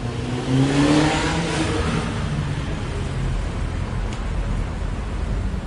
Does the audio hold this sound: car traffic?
yes